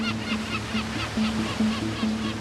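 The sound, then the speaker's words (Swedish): Continuous rushing ocean surf with a steady, deep engine drone humming underneath, as large tanker ships move forward over the waves in the Strait of Hormuz. “I Hormuzsundet färdas stora tankbåtar framåt över vågorna.”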